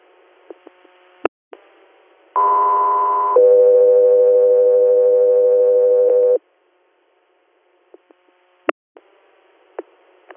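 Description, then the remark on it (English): Radio dispatch alert tones for Delta 3 Air: a loud, steady higher-pitched tone for about a second, then a longer lower tone lasting about three seconds, with sharp radio clicks and static pops before and after. “Delta 3 Air, stand by for tones.”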